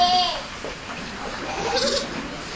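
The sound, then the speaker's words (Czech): A short, wavering goat or sheep bleat sounds right at the start, then trails off into a busy, noisy background with faint voices. “já tobě daru kudlatou kozíčku a bystrého baránka. A já vedu ovečku v té zelené kopečku.”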